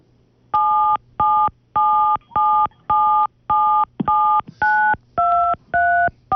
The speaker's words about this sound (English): the cell phone Christmas tune by your typing in the keys